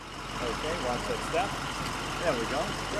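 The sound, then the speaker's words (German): A large white tour bus with a big silver radiator grille idles with a steady low rumble at the edge of downtown New Orleans on a hot, humid day as 20 tourists board, while voices murmur faintly in the background of a busy street. “Am Rand der Innenstadt steigen 20 Touristen in einen weißen Bus mit großem silbernen Kühlergrill.”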